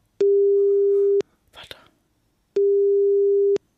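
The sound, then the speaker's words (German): A phone call to a father's phone rings out twice, each a steady one-second tone separated by a pause, with a brief soft rustle in between and no one picking up. “Austutet.”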